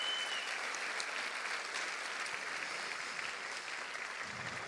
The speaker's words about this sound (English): There's 400 of you in the audience and some VIPs in the room, and they really helped make us make this possible. So if we can give them a round of applause, that'd be awesome.